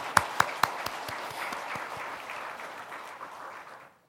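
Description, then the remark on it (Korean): An audience breaks into applause for those standing up as new district leaders starting this semester, opening with a few sharp, distinct claps before settling into a steady wash of many hands clapping together, then fading out near the end. “우리 박수 한번 쳐드리죠.”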